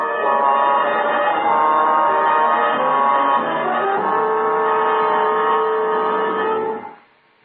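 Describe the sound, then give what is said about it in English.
An alarm bell rings loudly and continuously for about seven seconds as an agent approaches a building, a steady, harsh metallic tone with no voices, before it cuts off and fades. “An alarm bell rang.”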